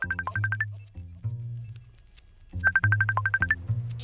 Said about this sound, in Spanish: Vamos a escuchar no este teléfono, sino los otros teléfonos. Que no sabemos dónde está. No, es misterioso.